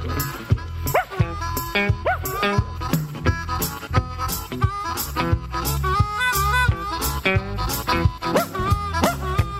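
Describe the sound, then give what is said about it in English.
A hound barks and whimpers in short yips over an upbeat band with a steady, driving beat, the dog sounds cutting through the loud music again and again. “Quit kicking my dog.”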